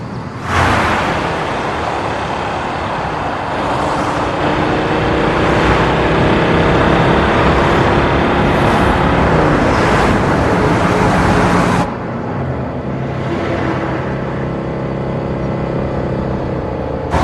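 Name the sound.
car driving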